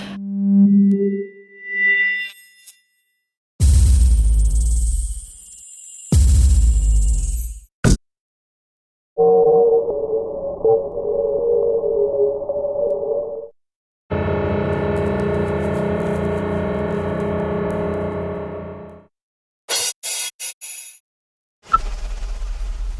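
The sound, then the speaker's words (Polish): A sequence of eight philharmonic hall bell signals, used there to call the audience to a concert and for musicians to communicate, plays alone: short ringing tones, then several sustained, bright electronic-sounding chimes of varying pitch and texture, separated by brief silences. “Te 8 dźwięków to są dźwięki, które pozostają na stałe w filharmonii, na przykład zapraszając odbiorców 3 dzwonkami na koncert, czy też w różnej innej sytuacji te dzwonki muzycy się komunikują też w wielu sytuacjach wewnątrz struktury.”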